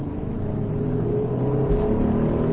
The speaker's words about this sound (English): You have to do this with the anticipation, because you've got a 3,000-pound car, and it's moving down the road, and you can't just stop it instantly. Right. So we'll pull back into line here. Okay, accelerate.